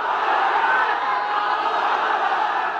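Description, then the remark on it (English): A small, vocal group of supporters shouts "Allahu Akbar" together near a courthouse as Abu Bakar Bashir enters in a flowing white robe, a loud, dense wall of overlapping voices that holds steady for the whole few seconds without a break. “Abu Bakar Bashir entered the courthouse dressed in a flowing white robe, while nearby a small but extremely vocal group of supporters shouted, "Allahu Akbar, God is great."”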